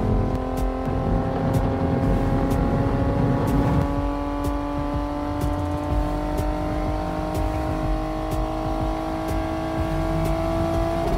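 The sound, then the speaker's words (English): A car engine roars steadily as it accelerates hard on a race track to get up over 100, its pitch climbing gradually, loud with road and wind rumble underneath, and no talking. “We got to get up over 100. Okay, over 100. Oh, yeah, here we go.”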